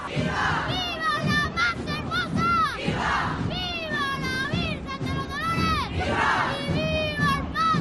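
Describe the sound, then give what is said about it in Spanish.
A street crowd cheers and chants at a traditional festival procession of international tourist interest, loud rhythmic shouted calls of "¡Viva el Paso Blanco!" rising and falling in repeated waves, many voices including children yelling together throughout. “Un momento que ayer nos dejó estos sonidos en las calles.”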